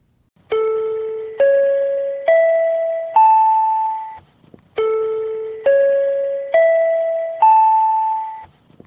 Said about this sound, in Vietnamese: Đây là âm thanh khi loa phát thanh công cộng của chính quyền địa phương thông báo về thiên tai và hướng dẫn địa điểm lánh nạn.